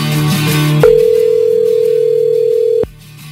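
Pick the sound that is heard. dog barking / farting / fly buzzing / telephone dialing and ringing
telephone dialing and ringing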